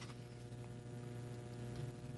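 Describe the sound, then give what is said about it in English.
Steady rain drums on the roof of a studio building in a continuous, even patter, heard from inside and fairly soft, with a low electrical hum running underneath; it is 69 degrees outside. No one speaks. “I hear the rain beating down on the roof here at the studios where it tells me it's 69 degrees outside.”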